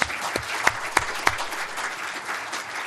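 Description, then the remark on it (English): An audience claps steadily for the panelists at the close of a panel discussion, a dense wash of many hands with a few sharper, louder claps standing out early on, and no voices over it. “I particularly want to thank the panelists, if we could give them a round of applause for their effort.”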